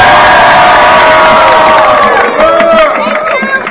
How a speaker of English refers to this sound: a round of applause for his help today? My goodness.